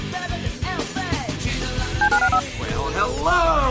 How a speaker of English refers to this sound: Dial the phone.